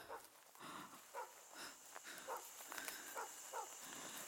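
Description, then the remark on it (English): Dogs bark aggressively in a rapid, irregular series of sharp barks, moderately quiet, over a steady background hiss. “Dogs bark aggressively.”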